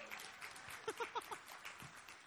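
An audience at a sermon gives a woman a hand clap, a short burst of applause, a dense wash of clapping with a few voices calling out in the middle before it fades away.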